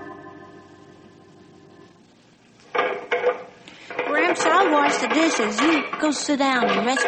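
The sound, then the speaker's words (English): Dishes clink and clatter in a sink as they are washed, after a low steady hum, with a few sharp knocks, then voices talking over the continuing rattle of plates. “I'll finish the dishes.”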